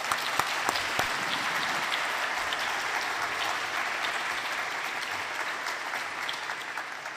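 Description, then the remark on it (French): Sustained audience applause for a singer, a dense steady patter of many hands clapping at an even loudness for several seconds, with a few sharper individual claps standing out early on and no voices. “Merci, vous pouvez l'applaudir, s'il vous plaît.”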